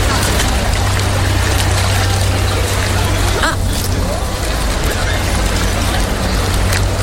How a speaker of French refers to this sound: Ah. Il y a un bon bruit de moteur. On entend l'eau. On entend l'eau. Oui. Donc on est sur une gondole, ouais, on entend un peu les gens qui parlent derrière.